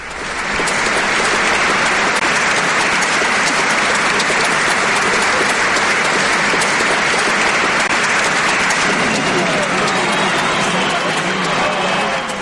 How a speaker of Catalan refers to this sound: El nostre aplaudiment d'avui.